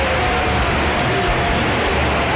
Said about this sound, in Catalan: Ovació del Villamarín!